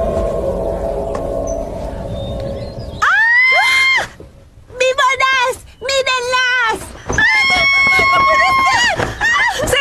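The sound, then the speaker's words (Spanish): After a few seconds of murky background noise, people break into loud, high-pitched screaming and shouting for help, several long overlapping cries in bursts, intense, with brief gaps between them. “Tienes que alborotar. Sí. Y después gritar pidiendo ayuda.”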